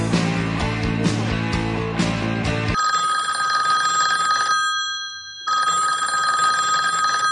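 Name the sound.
telephone ringing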